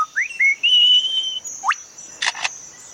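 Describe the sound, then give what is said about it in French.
A bird mimics a camera shutter: a few thin rising whistled notes, then two crisp, mechanical-sounding clicks in quick succession, fairly clear, with no voices. “Celui-ci est l'obturateur d'un appareil photo.”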